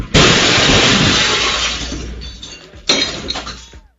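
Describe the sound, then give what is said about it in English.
A loud crash of a car smashing through the glass window of a street-level radio studio in downtown Charlotte, with shattering glass that rings out and fades, then a second smaller burst of breaking glass and tinkling shards. “Oh, and a car just crashed into it.”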